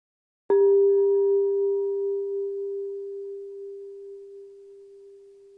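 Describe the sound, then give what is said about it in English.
A single bell is struck once to begin a time of reflection, then rings on with a steady mid-pitched tone that fades very slowly over several seconds, with fainter higher overtones dying away first. No one speaks. “A bell will ring us into this time, and then a bell will bring us back, where we will hear the first part of the story of Holy Week.”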